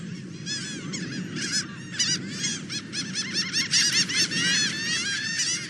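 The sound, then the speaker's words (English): Laughing gulls call over and over, their high, nasal, laugh-like cries overlapping as if from several birds at once, loud above a steady low rumble of background noise. “It took a while there, but I heard that bird laughing.”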